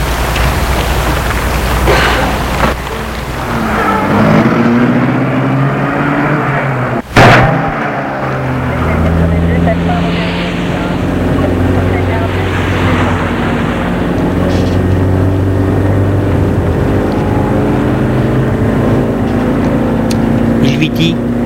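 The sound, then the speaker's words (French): A taxi drives along steadily, its engine rumbling low under continuous road and tyre noise, with one sharp thump partway through before the droning ride carries on. “Il donne au taxi l'adresse.”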